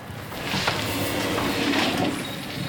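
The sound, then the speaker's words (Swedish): Chains hanging in an art installation knock lightly against eyeglasses as someone walks into the installation's frames, in a few irregular, soft metallic clicks and rattles, heard over a steady wash of background noise with no talking. “Det är ljudet mot mina glasögon, här kedjorna.”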